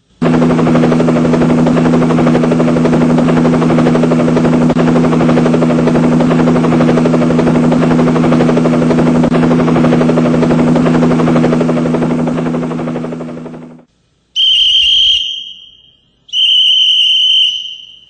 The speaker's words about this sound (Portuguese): Vem no meu helicóptero, homem. Mas vem imediatamente, rapaz.